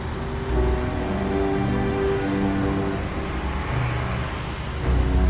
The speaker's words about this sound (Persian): امیر سوار موتور توی خیابون رانندگی میکنه